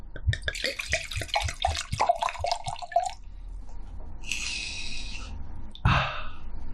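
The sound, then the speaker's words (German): Red wine glugs from a bottle into a glass in quick, bubbling bursts for a few seconds, followed by a shorter, smoother pour and a brief knock near the end. No one speaks. “Ja, wir machen Rotwein.”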